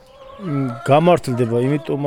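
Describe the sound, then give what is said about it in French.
Turkeys on a farm gobble loudly in a few quick, warbling bursts, one call running into the next over about two seconds, with no other noise around them. “Ici, vous élevez des vaches avec vos parents, vous avez aussi des dindons et des chiots qui font un sacré bruit.”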